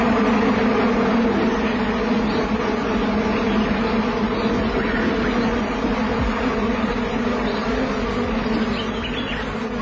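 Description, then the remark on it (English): A dense, steady drone of many flies buzzing together over the leftover remnants of a meal, a continuous low hum with layered whining tones that holds at an even loudness throughout, with no voices. “They've taken their pickings, leaving the pathetic remnants to the flies.”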